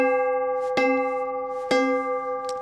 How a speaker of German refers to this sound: Wir haben also hier zwei Notglocken und ich schlage die mal an, die klingen gar nicht so schlecht.